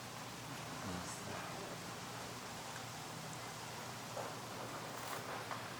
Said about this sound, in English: Well, actually, that rain that you're seeing right now is an answer to prayer, because this morning I got up and Richard had asked me to pray for rain, and I prayed for rain, and this paltry little misting thing came.